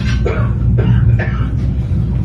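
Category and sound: human body sound, coughing fit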